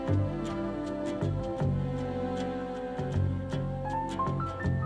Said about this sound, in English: Clocks tick. The hours, the days, the weeks pass.